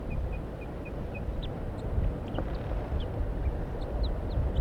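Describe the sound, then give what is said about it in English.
A wild bird up in a pine tree gives soft, short toop notes in an even series, then scattered faint, sharp alarm calls, over a steady wash of background noise. “Very soft toops and alarms.”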